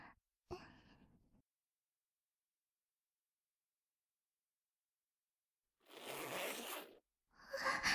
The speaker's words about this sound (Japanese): チャックの音かな。